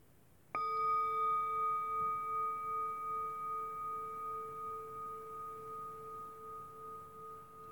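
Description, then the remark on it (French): A single meditation bell is struck once, signalling participants to get up after stretching and relaxing, and rings out with a clear, steady tone, its layered overtones humming and slowly fading over several seconds with no one speaking. “Chers amis, prenons le temps de nous étirer, de nous relaxer, avant de nous lever au prochain son de cloche.”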